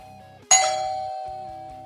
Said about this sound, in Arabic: ما أن أوصد السماعة لإغلاق الهاتف، صدح صوت جرس الباب.